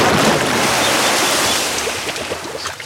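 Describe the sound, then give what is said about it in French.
A motorcycle plunges into a pond: a loud, rushing watery splash fills the scene, then slowly subsides into smaller sloshes and drips. No one speaks. “La moto a fini dans une mare.”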